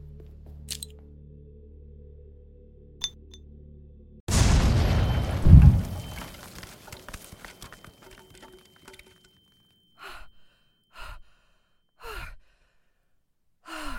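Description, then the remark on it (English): A grenade explosion goes off suddenly, a single loud, deep blast whose rumble fades over several seconds, followed by a few short, breathy gasps or sighs. “Is that a grenade?”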